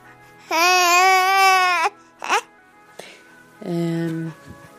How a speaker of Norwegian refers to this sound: når han glimter til med litt søtt babybabbel og bedårende barnegråt.